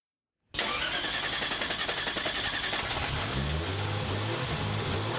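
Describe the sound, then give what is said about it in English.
A car engine cranks and fires up abruptly after a moment of silence, then settles into a loud, rumbling growl with a steady low throb and no talking. “Something about that American growl when it just punches, right? It's just got that roar, instant power.”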